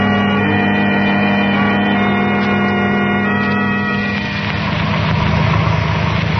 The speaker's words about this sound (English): The car with Herbert and the girl is just pulling over to the curb, Dr. Dahmer.